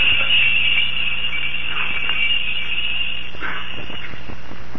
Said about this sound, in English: Ooh, those bells give me a headache. I think I'll put in a buzzer.